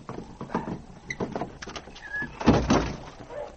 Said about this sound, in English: The door was built of thick planks. But finally, the sergeant chopped a hole through which he could put his arm. "That does it. I'll reach through and unbar the door from the outside."